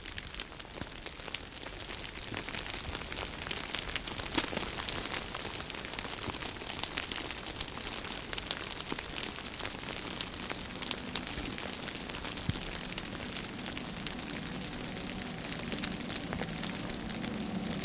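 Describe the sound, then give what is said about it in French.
Melting snow drips and trickles in a snow-covered forest in a dense, steady patter of countless tiny droplets, almost like rainfall though no rain is falling, holding an even level throughout with no voices. “L'écoulement de la neige qui fond est ici beaucoup plus marqué.”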